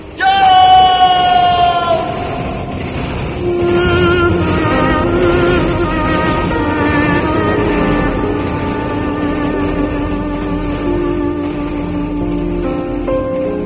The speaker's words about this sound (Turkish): Tren köprünün üstüne geldiğinde Can'ın babası acıyla haykırdı.